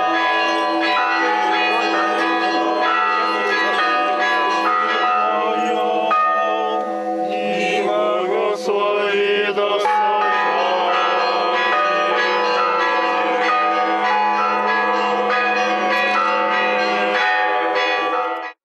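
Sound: church bells ringing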